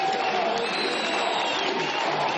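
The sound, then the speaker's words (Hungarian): A large crowd cheers and claps for minutes as Viktor Orbán tries to begin his election victory speech after the Fidesz-KDNP win in Hungary, a loud, dense wash of applause and voices with no pauses, sustained at steady volume throughout. “Sokáig nem tudta elkezdeni győzelmi beszédét Orbán Viktor, a tömeg percekig hangosan éjjenzett és tapsolt.”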